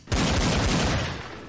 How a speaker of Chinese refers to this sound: 翻过岩石掩体，两个人竟已经处于贴脸状态，近距离互相射击。然而两女的反应速度都很快，用身法躲过了这近距离的攻击。